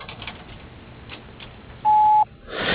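A single steady electronic beep, the voicemail recording tone of BK Plumbing's answering message, loud and clean, holds for about a third of a second after a stretch of faint line hiss, followed by a burst of brighter static noise.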